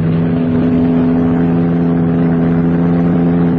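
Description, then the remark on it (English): A car driven by a woman comes along a road, its engine droning loudly for a few seconds, a steady, throaty hum with strong low tones that holds without a break and no voices. “The bird driving that car.”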